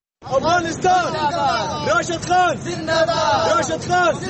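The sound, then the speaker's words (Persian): A dense crowd of Afghan fans living in Pakistan shouting and cheering for Afghanistan's team at a Champions Trophy cricket match in a stadium, many overlapping voices rising in loud, chant-like bursts that carry on steadily for a few seconds. “تعداد از افغانهایی که در پاکستان زندگی می کنند با وصف دشواری ها و مشکلات موجود در آن کشور تلاش می کنند تا به تماشای مسابقات کرکت رفته تیم کشورشان را تشویق کنند.”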